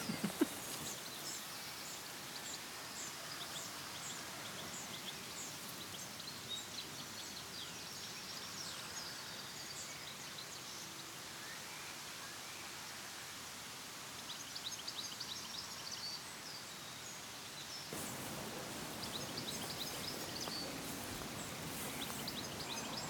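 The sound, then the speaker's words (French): Steady wind blowing outdoors, a continuous breezy rush with some rustling, while birds chirp and tweet faintly in the background throughout. No one speaks. “Bon ben, à part le vent, qui n'est pas forcément désagréable, mais qui est quand même sa présence un petit peu...”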